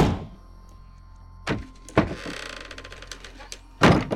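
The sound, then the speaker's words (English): A broom closet door bangs shut with several heavy thuds, a couple of sharp knocks followed by a rattle of latch clicks, then a final loud slam. No one speaks. “The door slammed shut.”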